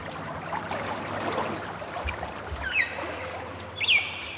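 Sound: flowing river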